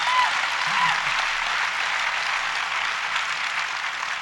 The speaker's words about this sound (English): He gives us hope that you can operate in the commercial music world and maintain your integrity. And for that, we applaud you.